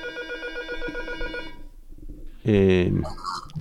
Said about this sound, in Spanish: Perdonar. Que están llamando al timbre y yo creo que estoy solo.